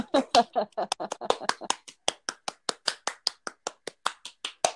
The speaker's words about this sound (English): a round of applause. Ready? Yay!